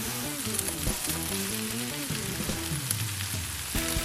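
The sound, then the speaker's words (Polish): Steady, dense sizzling of chicken with mushrooms and peppers frying in a pan, with a continuous crackling hiss and low tonal hum underneath, plus occasional scraping as everything is stirred. “Do podsmażonego kurczaka wrzuciliśmy pieczarki i paprykę i teraz wszystko dokładnie mieszamy.”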